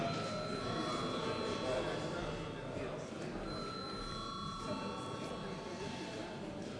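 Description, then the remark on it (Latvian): A continuous electric bell rings steadily for several seconds in a parliament chamber before a vote, a loud, bright metallic trill, with faint murmuring voices beneath it. “Lūdzu zvanu.”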